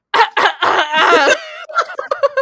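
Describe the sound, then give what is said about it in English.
A person coughs in a few short, rough bursts, followed by a drawn-out voiced throat sound and some choppy, laugh-like noises. “Oh, as if you don't cough every time before you start,”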